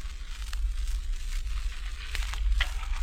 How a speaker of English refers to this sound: Tessa's in the kitchen washing dishes.